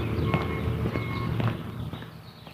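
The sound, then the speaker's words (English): Steady footsteps of a person walking, about two steps a second, over a constant low background hum with a faint tonal whine. “I'm walking, not talking, thinking about airplanes.”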